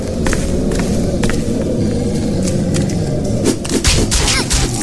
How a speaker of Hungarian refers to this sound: Még a denevérnek a szárnya is suhog, lehet hallani.